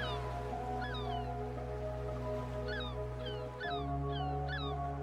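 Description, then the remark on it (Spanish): White seagulls cry out at a sandy seaside beach in a few scattered bursts, one call early and then a quick cluster near the end, moderately loud above a steady low droning hum. “respiras el olor característico a la sal del mar y observas las gaviotas blancas.”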